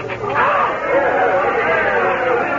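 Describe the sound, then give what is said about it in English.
A large crowd of people outside, many voices shouting and cheering over one another in a loud, continuous roar with no single words standing out, as the Duke crosses the border. “Judging from that crowd, the Duke has just crossed our border.”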